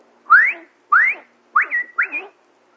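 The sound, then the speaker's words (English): A person outdoors whistles a loud calling signal for others to come: two rising swoops followed by two longer two-part phrases, sharp and clear, with no talking. “So I used to go out and whistle.”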